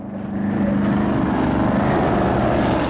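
A speedboat engine roars loudly and steadily as it races towards a marina, swelling in the first moment then holding a strong, droning pitch throughout, with no voices.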